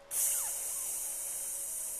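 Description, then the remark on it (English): A sudden, loud, steady high-pitched hiss of two punctured tall cans spraying inside the cab of a truck while driving, starting abruptly and continuing unbroken for about two seconds, with a faint squeal sweeping downward early on. “And there's freaking tall cans spraying all over the freaking place.”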